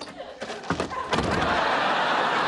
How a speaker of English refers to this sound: slams her apartment door on him.